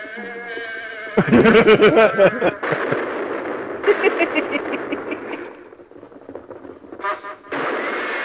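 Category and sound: animal, horse neighing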